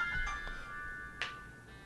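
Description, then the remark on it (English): A phone ringtone for an incoming call from Maureen plays steadily on a large phone, a bright electronic melody of sustained tones with a few short accented bursts, fairly quiet and heard on its own without any talking. “I can't no, answer No, don't answer it right now. How do you pause it? How do you not answer it?”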